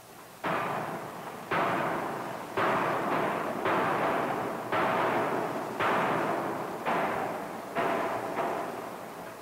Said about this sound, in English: In the second hammer, the die has only one impression. Thus, the power of the hammer is concentrated on the forging during the finishing blows.